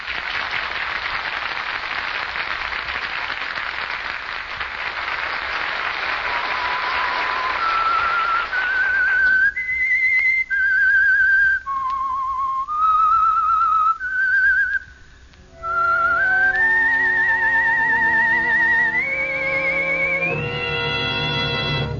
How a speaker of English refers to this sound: That whistle is your invitation to another Meisterbrau mystery drama presented by The Whistler.